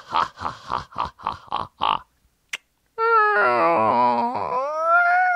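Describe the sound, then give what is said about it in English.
A voice imitates a creaky door, the noise used for Halloween: six quick rhythmic grunting pulses and a short click, then a long, loud, wavering squeal whose pitch slides and bends, with no talking. “Like, dude, not scary, just a creaky door.”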